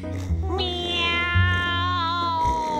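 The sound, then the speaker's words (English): A long, drawn-out cat yowl rises sharply and then slowly sags over about two seconds, loud, over a low steady hum with no talking. “Meow, yowled the cat.”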